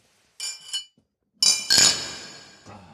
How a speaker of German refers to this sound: Ja, lass uns mal anstoßen.